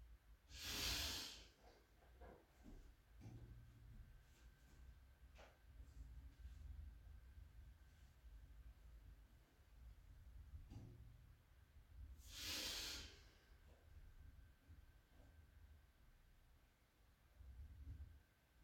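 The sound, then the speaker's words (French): Two loud, forceful breaths drawn sharply through the nose during yoga breathing practice, about eleven seconds apart, each a rushing, hissy burst of air taking in a lot of air at once, with fainter breathing in the quiet between them. “Ça peut être assez sonore, puisqu'on fait rentrer beaucoup d'air d'un coup.”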